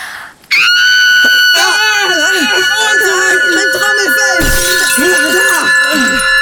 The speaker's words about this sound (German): Seht mal, das Glas. Es ist zersprungen. Unglaublich. Ich fasse es nicht. Sie hat das Glas tatsächlich mit der Stimme zum Platzen gebracht. Da staunt ihr, was? Du kannst Glas zersingen?